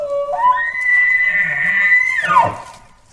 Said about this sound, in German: Der Brunftruf, der wird auch Horn oder Bellen genannt.